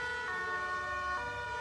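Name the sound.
ambulance siren passing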